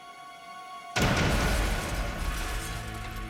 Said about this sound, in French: L'explosion blessa gravement l'assistant et fit exploser les tympans de McConnell.